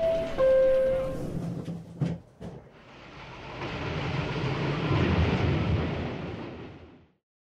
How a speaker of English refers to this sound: This is the air train to JFK Airport. Please watch the closing doors.